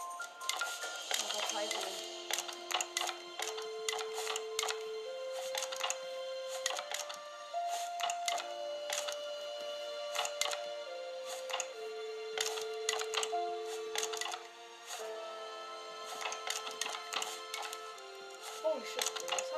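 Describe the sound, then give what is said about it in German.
Hammer tapping while building in the video game Raft repeats quickly and irregularly, with sharp clicky strikes coming in bursts throughout, layered over sustained tones that step up and down in pitch. “Ihr werdet euch jetzt die ganze Zeit den Hammer hören.”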